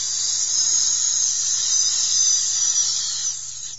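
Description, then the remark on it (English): An adder, Asmodeus, hisses in one long, unbroken breathy stream that echoes through a large cave, sharp and high-pitched, holding steady for several seconds before easing off slightly at the end, with a faint low hum beneath. “The deadly hiss echoed all around him.”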